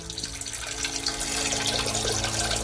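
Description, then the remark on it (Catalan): Water runs in a steady, continuous stream, splashing and gurgling like a small fountain or tap, fairly loud, with no voices. “Això és una font. Ah, això no, és algú està fent un riu.”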